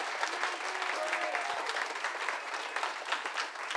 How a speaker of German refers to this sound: dass ihr alle den beiden stellvertretend für noch mehr Mitarbeiter einen ganz dicken Applaus gebt. Denn die haben ganz viel im Hintergrund geschützt.